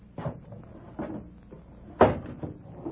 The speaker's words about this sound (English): Anything else? Shut the window.